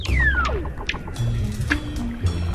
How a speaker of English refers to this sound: The ice forms an undulating ceiling, and the seal makes a clicking sound.